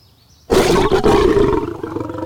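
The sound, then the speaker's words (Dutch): A lion lets out a single loud, deep roar that bursts in suddenly after a moment of quiet and rumbles on, slowly fading, with no one speaking. “Het is het gebrul van een leeuw.”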